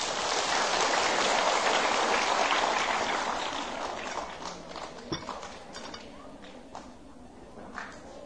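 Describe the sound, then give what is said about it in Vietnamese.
A large group of children claps loudly together in a big round of applause, a dense, steady patter of many hands that fades gradually over several seconds, with a few scattered claps lingering at the end. “Nếu các cháu thấy những điều mà thầy vừa nói là có thể làm được và tình nguyện làm việc đó, thì hãy dành một tràng vỗ tay thật to.”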